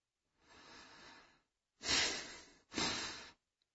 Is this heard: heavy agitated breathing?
yes